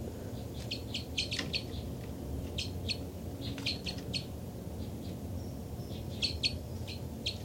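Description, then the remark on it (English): Two birds chitter in quick bursts of high, sharp notes, with several clusters of rapid calls repeating over a steady low rumble of background noise. “Chitter by the birds.”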